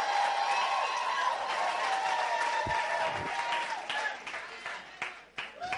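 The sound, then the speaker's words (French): A church audience applauds Jesus steadily with mixed cheering voices, a dense wash of clapping that thins near the end into scattered, sharper individual claps. “Donnez une bonne acclamation à Jésus.”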